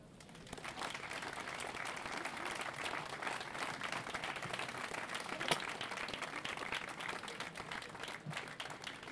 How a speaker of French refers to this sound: donc on peut l'applaudir pour cette belle lecture du texte de Victor Hugo.